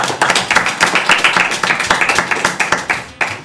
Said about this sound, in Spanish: Bueno, pues un aplauso para los chicos de cuarto.